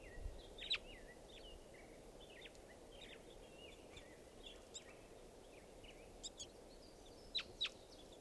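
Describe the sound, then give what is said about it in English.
Several birds call intermittently in a park, circling across it, over steady outdoor background noise, with short chirps and whistled notes scattered throughout and a couple of sharper, louder calls near the end. “Birds are calling here.”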